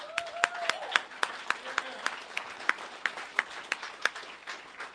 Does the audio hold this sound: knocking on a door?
no